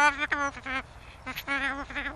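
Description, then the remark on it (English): Rocco, a tame 32-year-old bird and the emblem for Echo Island, chatters in a garbled, speech-like babble: two bursts of wavering, warbling voiced sounds separated by a brief pause, fairly loud and rising and falling in pitch. “The amount of people come up and he do you know what, he yabbers like an old drunken person going along the road at 11 o'clock at night.”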